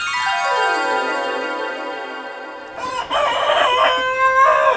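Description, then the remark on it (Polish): A rooster lets out a long, loud cock-a-doodle-doo, its strained call rising and holding for a few seconds before breaking into a rougher ending. No one speaks. “Trzymają kury, koguty, prosiaki.”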